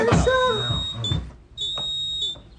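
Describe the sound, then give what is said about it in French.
A home alarm system sounds two long, shrill electronic beeps separated by a short pause as a wrong code is entered. A voice briefly overlaps the start of the first tone. “le père a fait installer un système d'alarme chez eux avec un code dont il essaie de se rappeler.”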